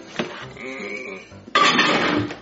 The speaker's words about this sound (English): All right, now I got to put it in the microwave.